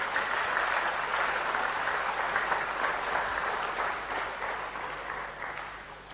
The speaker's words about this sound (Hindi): तो अपने लिए तालियां बजाइए, एक बार जोर से तालियां बजा दीजिए।